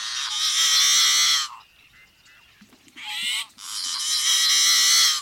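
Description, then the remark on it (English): A yellow-headed blackbird gives loud, harsh, buzzy rasping calls: a long grating burst, a short pause, then two more strained, wheezy screeches with no talking. “Or the yellow-headed blackbird?”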